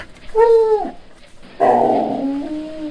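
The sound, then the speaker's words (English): Two small Jack Russell terriers, being let out in the morning, vocalize in loud bursts: a short high yelp that slides downward, then a longer whining, yipping cry that trails off. No one speaks. “First thing I do, I'll go downstairs and let the dogs out, two little Jack Russells.”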